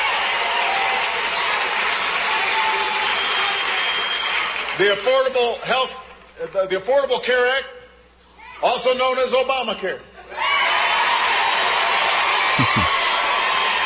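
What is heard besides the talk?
crowd cheering and applauding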